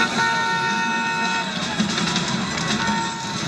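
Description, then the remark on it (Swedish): Dense city traffic in Hamburg, heard on a bus ride toward the Reeperbahn, rumbles steadily while a car horn blares in a long sustained honk, followed later by another shorter honk amid the street noise. “Till skillnad från oss så fastnar inte Philip Seymour Hoffman i trafiken”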